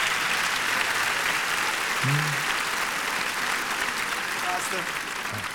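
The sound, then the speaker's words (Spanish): Loud, sustained applause from an audience welcoming a pastor, a steady wash of clapping throughout with a few faint voices and whoops rising briefly above it. “Entonces, ahorita a la salida, quiero que reciban con un fuerte aplauso al pastor”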